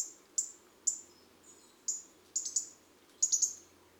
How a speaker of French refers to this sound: Les tic-tics du rouge-gorge sont légers, délicats et assez peu sonores.